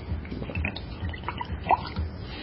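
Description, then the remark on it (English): Vodka pours into glasses in short, soft splashes and trickles, fairly quiet, with a faint gurgle rising briefly partway through. No one speaks. “Everybody's got a splash at least?”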